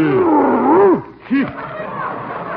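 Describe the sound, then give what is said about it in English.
A large dog lets out a loud, rumbling growl with wavering, rising and falling pitch, breaks off briefly, then snarls again in a shorter burst before trailing into a low rumble. “There's a man coming with a big dog and a gun.”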